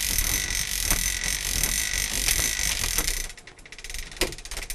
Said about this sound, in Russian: Примерно так работает наш часовой механизм. Заводит часы с помощью специальной ручки, поднимая гири до уровня самого механизма. Сейчас мы будем поднимать гирю, которая отвечает за ход часов.